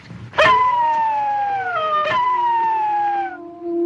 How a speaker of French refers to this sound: Qu'est-ce que c'est? Eh ben, c'est des loups. Des loups à Paris, tu te fous de moi, non? On est à côté du jardin des plantes. Ils sentent la viande.